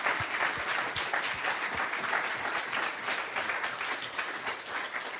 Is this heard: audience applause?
yes